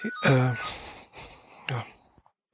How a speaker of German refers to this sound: jetzt klingelt das Telefon, gehe ich nachher gleich dran.